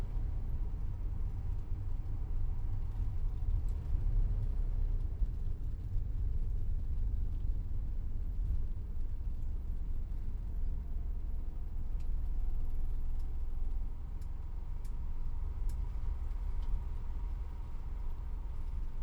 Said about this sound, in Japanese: バスが止まったら立とうね。